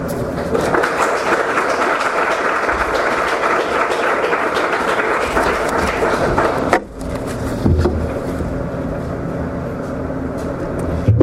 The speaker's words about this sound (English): Thank you very much. We'd like to give another hand of applause to the celebrants, please.